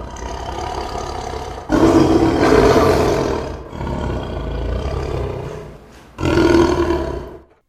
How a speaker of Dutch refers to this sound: En Aslan ging staan en toen zijn muil openging om te brullen, zag zijn gezicht er zo angstaanjagend uit dat de meisjes niet alleen wilden dat ze het niks hoorden, maar ook dat ze niks zouden zien.